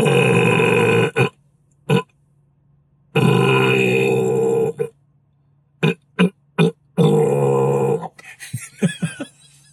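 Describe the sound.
A man's voice imitates the sputtering engine of a badly running plane in northern India: long rough droning bursts broken by short choppy pops and coughs, then a ragged stuttering stretch at the end.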